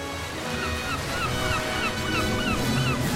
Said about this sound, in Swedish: Det är sommar 2004. Vågorna slår mot stranden som ligger precis nedanför Martins hotellrum.